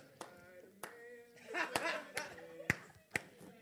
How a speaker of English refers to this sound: Clap for the Lord Jesus.